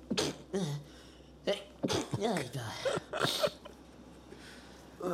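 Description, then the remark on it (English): A few short, sharp sneezes from a person and breathy vocal bursts come in quick succession with brief pauses, then trail into quiet. “For the listener, that is actually how I sneeze.”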